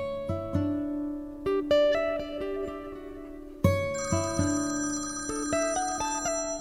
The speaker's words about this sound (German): Am nächsten Morgen klingelte das Telefon.